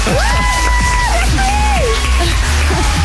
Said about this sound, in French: Et le stade t'applaudit.